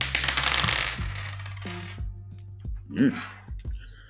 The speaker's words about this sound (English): And let's consult with the Astrogalomancer and take fate into our own hands and cast the dice. What will be our next episode?